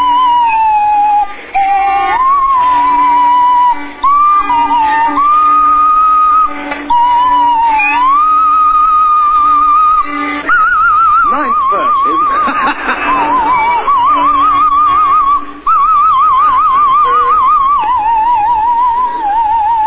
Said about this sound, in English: Tim Brooke Taylor is now walking over to the violin. The violin is, in fact, staying there, and... Milani has the swanny whistle. One, two, one, two, three, four.